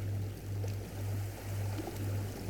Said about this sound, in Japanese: そうか、波の音を聞いていたんだ。